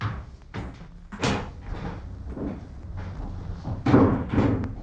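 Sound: door being opened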